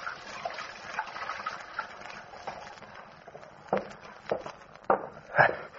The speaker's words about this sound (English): So I went into the tailor's little back room and took off my suit. Then I went over to the washstand and started to wash.